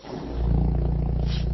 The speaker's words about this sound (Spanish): Uy, qué feo. Es un ronquido.